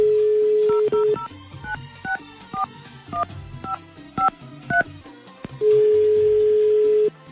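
A steady phone tone gives way to roughly ten quick, high touch-tone beeps dialed in an uneven rhythm, then one long, loud, steady tone sounds as the line rings. No one speaks.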